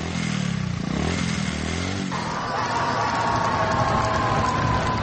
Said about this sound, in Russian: Так воспитанники Опоческой коррекционной школы-интерната встречают своего Деда Мороза. Он приехал в гости к ребятам на мотоцикле в сопровождении мотокортежа.